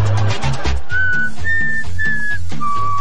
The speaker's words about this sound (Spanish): Pero no sé silbar. Ah, no, sí sé. Es que nunca me sale cuando quiero silbar. Ah, no, sí me sale.